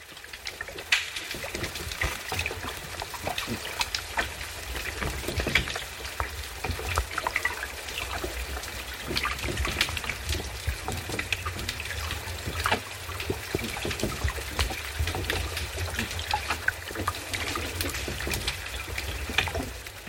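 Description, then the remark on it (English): A dense, steady crackle of snapping shrimp underwater: countless sharp, dry clicks popping irregularly over a low watery rumble, continuous and fairly loud for the whole stretch, with no voices. “But apparently there are snapping shrimp in every sea around the world.”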